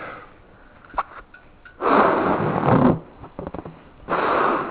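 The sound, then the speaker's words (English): Two long, breathy puffs of air are blown into a balloon, used as a model of a lung alveolus, each lasting about a second, separated by a few soft clicks and squeaks of rubber. “So here's a balloon.”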